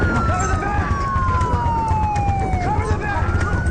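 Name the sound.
police car sirens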